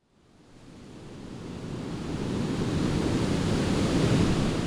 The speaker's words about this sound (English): Standing here at the site of Gerald Kavanaugh's last breath on Ocean Beach, Dan and I are surrounded by a beautiful panoramic scene. A cool breeze is coming off the surf.